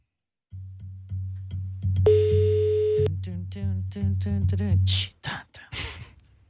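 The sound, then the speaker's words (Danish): A single one-second ringback tone sounds on an outgoing phone call made to award a gift card, a steady electronic beep over a low humming background, followed by brief breathy voice sounds. “lad os se, om der er nogen, der gider at svare telefonen, når vi nu ringer for at uddele gavekortet”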